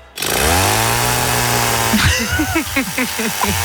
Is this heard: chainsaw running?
yes